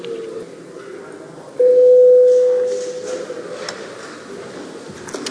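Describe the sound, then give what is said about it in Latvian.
A parliament's voting bell: a single steady electronic signal tone, mid-pitched and sustained for about a second and a half, rises loudly over a low background murmur of people before a vote on a proposal, then cuts off. “Lūdzu zvanu.”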